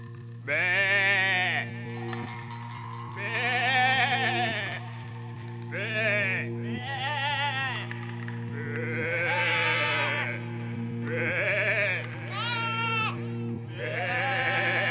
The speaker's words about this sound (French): Ce sont les moutons du passé.